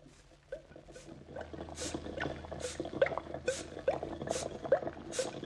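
Steady bubbling and gurgling pops with bursts of sizzling hiss recurring roughly every half second, from a setup of chemicals, test tubes and a hot plate, moderately loud, with no voices.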